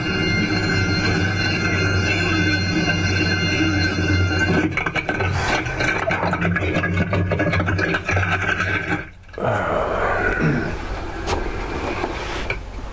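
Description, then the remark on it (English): A loud helicopter engine drones with a steady whining hum, then turns rough and uneven, briefly cutting out before laboring on at a lower, strained pitch as it bogs down. “And you can hear it bogging down now.”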